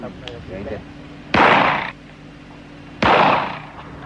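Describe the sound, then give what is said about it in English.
Two loud gunshots ring out outdoors at a shooting range in Thailand, fired at a silk bulletproof vest being tested, about a second and a half apart, each a sharp crack trailing into a brief echoing decay, with faint voices murmuring in the background. “After several rounds of gunfire, the vest was examined.”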